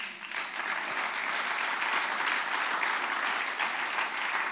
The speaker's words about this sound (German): Gebt Gott mal einen Applaus.